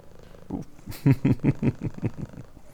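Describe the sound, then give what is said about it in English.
A cat purrs, a steady rumbling pulse repeating several times a second for a couple of seconds, fairly loud with no voices over it. “He's a very friendly cat.”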